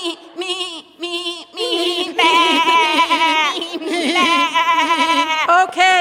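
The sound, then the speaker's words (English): Human voices mimic a baby goat's bleating: a few short, high, quavering bleats, then a longer run of loud, wavering, overlapping bleats that trill up and down in pitch. “Oh, yeah, goats are hilarious. Especially the baby ones, they're like...”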